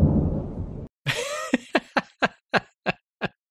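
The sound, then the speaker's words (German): A brief, loud thunder sound effect rumbles low, then cuts off and gives way to a burst and a run of about eight quick, evenly spaced pulses that fade slightly. “wenn du schluckst, das klingt ja wie Donnern.”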